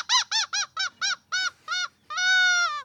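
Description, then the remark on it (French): A seagull's laughing call as it flies off, loud: a quick run of seven sharp, nasal yelps followed by one longer, drawn-out cry, with no voices. “Et donc là, on s'en est assez bien tiré puisque la mouette s'en va en riant.”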